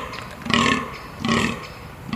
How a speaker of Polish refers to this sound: kończy się rykowisko, zaczyna się bekowisko, to gody Danieli.